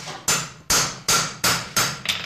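A hammer taps a bent horseshoe on an anvil to straighten it by hand: six sharp metallic strikes in a steady rhythm, each ringing briefly before the next, clear with no talking.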